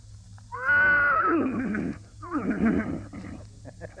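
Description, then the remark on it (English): A person's voice imitates a horse whinny: a loud, high quavering neigh that slides downward, followed by a second shorter, lower whinnying burst, clear with a faint hum underneath. “Well, let's start with the horse. That ought to make a big impression on him. Well, he goes...”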